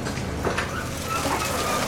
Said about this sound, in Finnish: Gaasan ääni on nyt myös puskutraktorin jyrinä.